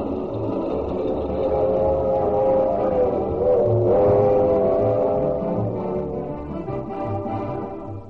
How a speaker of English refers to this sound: The minstrel train's first stop is Louisville, Kentucky, and let's see if we can pick her up roaring into town.